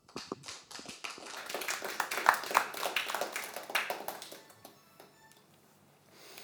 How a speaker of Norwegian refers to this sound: Igjen en varm applaus.